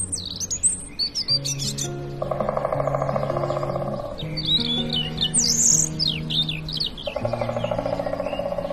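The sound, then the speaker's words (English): A dawn chorus at sunrise: blue tits, goldfinches, crows, magpies, pigeons and other wild songbirds chirp and trill at once in a busy, overlapping chorus of high, quick calls, with steady low sustained tones humming underneath throughout. “Punctuated by the occasional drumming of a woodpecker or even honking of a wild goose, blue tits, goldfinches, crows, magpies, pigeons, and countless other birds I can't begin to identify, sing their hearts out”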